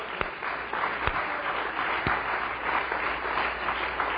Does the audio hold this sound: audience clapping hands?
yes